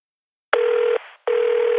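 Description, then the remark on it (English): Two loud, steady electronic telephone tones, each a flat sustained beep lasting about half a second, separated by a short gap, with no voices, before a visitor information center's answering machine message. “Information from a company answer phone.”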